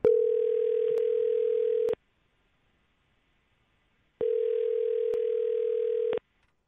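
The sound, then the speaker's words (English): A phone ringback tone for an outgoing call: two long steady electronic rings, each about two seconds, separated by a couple of seconds of silence, heard clearly with no one talking. “Well, let's call him and see what we got.”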